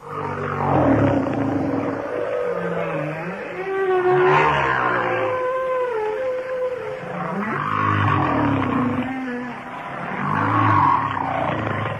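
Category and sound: animal, humpback whale vocalization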